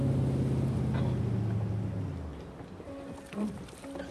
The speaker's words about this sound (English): I heard in the background, I heard the boat coming in